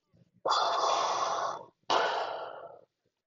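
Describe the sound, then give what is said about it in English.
A voice imitates Darth Vader's heavy mechanical respirator breathing: two long, hissing breaths, an inhale then an exhale, loud, with a brief pause between them. “Darth Vader just stood there, just breathing.”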